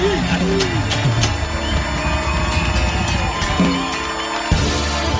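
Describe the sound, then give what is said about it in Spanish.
A live concert crowd at an MTV Unplugged special cheering and applauding, with steady clapping and scattered rising shouts and whoops, loud and continuous throughout. “Aplausos, aplausos.”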